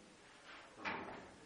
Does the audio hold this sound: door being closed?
yes